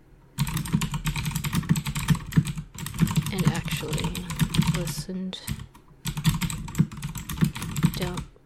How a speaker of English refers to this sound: Okay, here. This is what I'm typing.